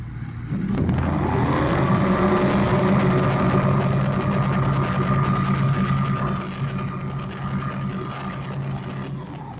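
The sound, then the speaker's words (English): A submarine's own diving-plane machinery, heard through its sonar listening gear, grinds on in a steady, loud mechanical hum with a deep droning tone and faint whining overtones, starting after a brief pause and easing slightly toward the end. “Planes.”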